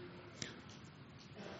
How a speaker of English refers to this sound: Well, I hear pages rustling. I'll let you get there.